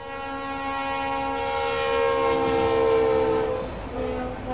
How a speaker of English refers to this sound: you're stuck waiting for a train and hoping it doesn't stop on the tracks.